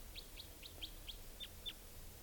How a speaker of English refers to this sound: Okay, here's the type 2 wild bird.